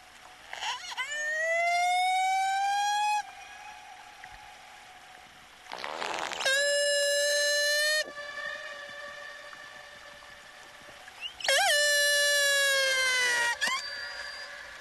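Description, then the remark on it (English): Transient killer whale calls from the AT1 pod in Prince William Sound, Alaska: three long, loud, high-pitched harmonic cries, each sliding upward in pitch and separated by brief pauses, with no voices over them. “And when the last of these whales is gone, so too will be their calls that echo through Prince William Sound.”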